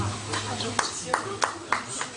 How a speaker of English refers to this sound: Oh, they're trying to clap them off stage.